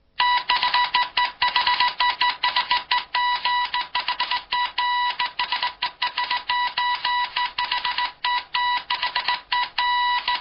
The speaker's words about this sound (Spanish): ¿Qué es? Bueno, esto es Morse, ¿no? Efectivamente. Uh-huh. En Morse se usan solo dos sonidos, punto y raya.